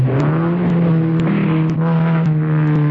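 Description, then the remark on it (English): A car engine roars loudly, its deep drone holding steady and rising slightly in pitch as it revs, with occasional sharp clicks and no voices. “A man who knows how to handle his car.”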